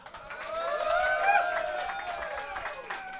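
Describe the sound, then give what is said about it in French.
An audience applauds with scattered clapping under a swell of cheers and high whoops, sustained and fairly loud throughout the three seconds. “Je vous entends pas applaudir.”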